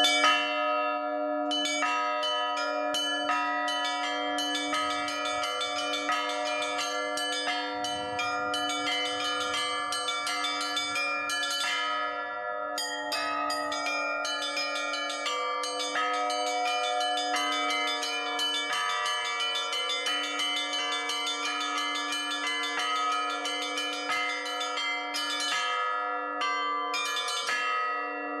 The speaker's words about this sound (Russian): Даже один и тот же звонарь звонит по-разному, и разные звонари на одной и той же колокольне, как я уже говорил, тоже все звонят по-разному.